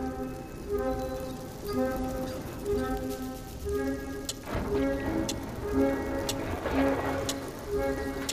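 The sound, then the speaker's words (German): A clock ticks with sharp, crisp clicks over a sustained tonal drone and steady hiss, the ticks clearer in the second half and no one speaking. “Aber milliardenfach müsste die Uhr ticken, bis die Farbe keinen Schaden mehr anrichtet.”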